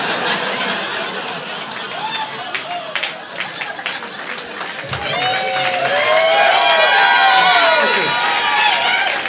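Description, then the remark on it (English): An audience applauds steadily, a dense patter of many hands, and partway through whoops and cheering voices rise over the clapping, which keeps going to the end. “guys are applauding a sad, sad time in my life.”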